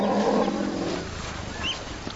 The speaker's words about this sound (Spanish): Los elefantes pasan cerca. Sí. Se asusta con el sonido de un elefante que se acerca.